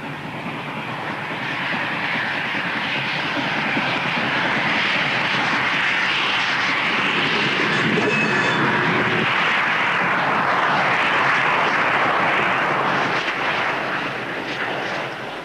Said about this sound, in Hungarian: Hallod? Hallod? Ott jön a vonat.